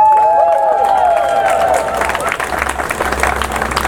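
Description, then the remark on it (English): An audience breaks into steady applause to welcome two medical speakers, a psychiatrist and a physician assistant student: a dense wash of many hands clapping, with a few brief whistle-like tones at the start and loud, sustained clapping throughout. “Let's receive them with a hearty applause.”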